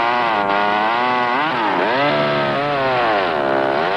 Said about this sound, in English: The Homelite Easy is the chainsaw with professional performance, designed for the weekend woodsman.